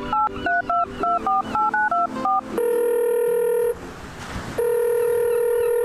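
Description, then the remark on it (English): A call being placed on a Phonem by Beyer Dynamic: a quick run of about ten touch-tone beeps at varying pitches, then two long, steady ringing tones separated by a brief burst of hiss. No one speaks. “Oh, snap! That thing takes calls?”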